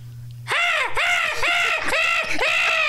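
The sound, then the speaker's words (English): A person does a loud seagull impression: four shrill, wavering cries in quick succession, each rising and falling in a strained arc, with no other voices over it. “And of course, we're all going to go around the room now and do our best seagull impression, right?”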